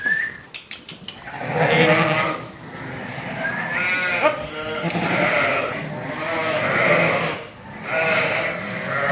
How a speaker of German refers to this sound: Zum Abschluss ist den Schafen noch ein Ton zu entlocken. Hören die auf irgendein Kommando.